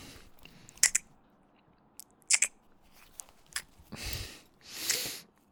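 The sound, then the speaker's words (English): A dress zipper is tugged, first in a few short raspy catches, then in two longer scratchy pulls. Quiet surroundings, and no one speaks. “Zipper.”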